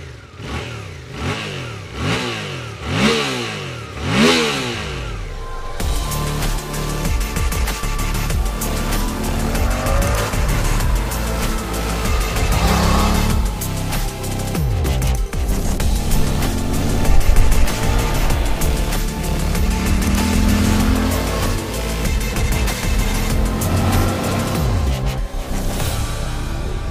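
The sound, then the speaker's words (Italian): A motorcycle with clip-on handlebars and an 810 mm seat height starts and revs in several rising, falling bursts, then settles into a loud, continuous roar, with no talking. “Detto questo, quindi singolo bottone, vi faccio sentire anche il motore.”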